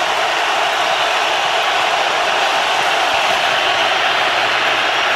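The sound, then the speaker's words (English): A loud, steady roar from a huge American football stadium crowd fills the whole stretch during a late drive by Rodgers, at third and 10 with 20 seconds left. It is a dense, unbroken wash of cheering noise with no distinct voices or pauses. “Crowd roaring.”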